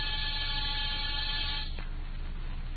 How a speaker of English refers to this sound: After disturbing 7 occupants of 7 different apartments and getting 7 nasty comments, I rang one buzzer.